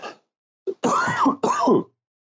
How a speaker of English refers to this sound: He's sick. Very. Yeah. Can't get over this cough.